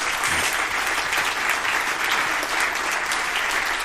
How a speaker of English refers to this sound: Well, I just want to thank the choir from the bottom of my heart once again. It's a sacrifice. And give them a hand clap for that.